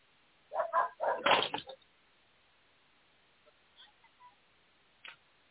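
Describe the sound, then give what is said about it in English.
A guard dog lets out a quick burst of three or four loud barks, then falls quiet, leaving only a few faint, scattered small sounds. “Yeah, guard dog, baby.”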